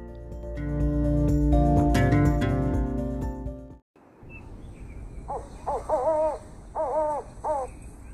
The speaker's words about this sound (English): An owl hooted 5 times.